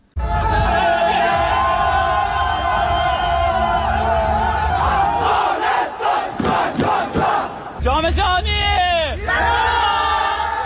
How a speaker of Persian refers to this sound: باشندگان ولایت‌های مختلف به گونه گروهی با پایکوبی و شور و هیجان از این پیروزی بی پیشینه تیم فوتسال افغانستان استقبال کردند.